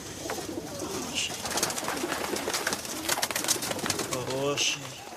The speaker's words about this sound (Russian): Поздний вечер. В одесском дворе подросток в голубятне кормит птиц. Любуется своими питомцами, с нежностью гладит голубей.